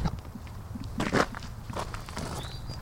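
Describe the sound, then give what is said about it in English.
Footsteps crunch along a hillside path overlooking the Hudson River, with the Rip Van Winkle Bridge in view, in an uneven rhythm, with a few louder scuffing steps standing out over a low steady background hum and a faint high whistle near the end. “No, we're walking out onto the side of the hill with a view down over the Hudson River, the Rip Van Winkle Bridge in front of”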